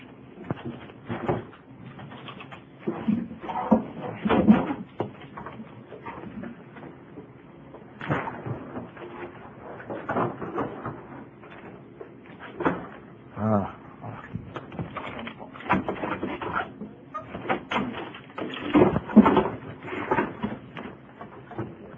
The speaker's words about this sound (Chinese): 可以不可以把两个椅子放在这个下面？